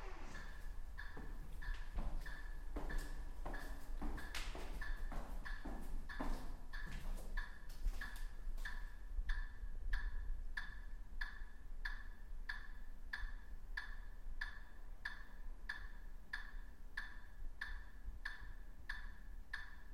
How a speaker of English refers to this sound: And here's the ticking.